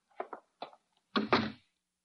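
A few light latch and handle clicks, then a single heavy door slamming shut with a solid, booming thud that quickly dies away, with no voices.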